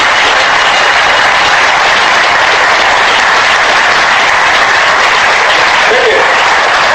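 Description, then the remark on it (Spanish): Sustained applause from a sizable audience clapping for a man praised in a speech, a dense steady wash of clapping lasting several seconds at a fairly loud, even level with no voices standing out. “eres un tío grande, eres un tío honrado, y por eso creemos en ti, y por eso hoy te aplaudimos.”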